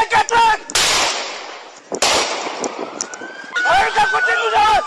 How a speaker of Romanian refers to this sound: Atunci, polițiștii au tras mai multe focuri de avertisment în aer pentru a-l soma să se oprească.